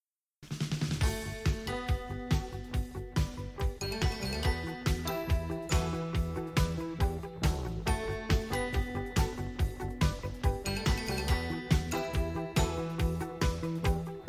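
An upbeat instrumental intro of a Swedish children's pop song, with bright, bouncy keyboard chords and a steady thumping beat, loud and rhythmic, with short repeated stabs and a jingly, cheerful feel; no one sings yet.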